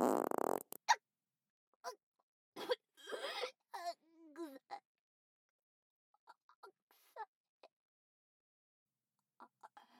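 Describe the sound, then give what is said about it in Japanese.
A loud fart bursts out at the start, the first of a series, followed by scattered short whimpering and moaning vocal sounds that trail off into faint, sparse noises. “あなたはもういらない。おならにまみれて死ぬの。ほら、一発目。”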